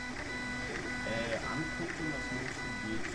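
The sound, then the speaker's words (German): A square 3D printer hums steadily as it prints layer by layer onto a raised glass plate, its stepper motors whining in short rising and falling tones as the print arm moves, with faint voices murmuring underneath. “Also da ist eine Glasplatte in diesem viereckigen Drucker hochgefahren, auf der wird jetzt gedruckt.”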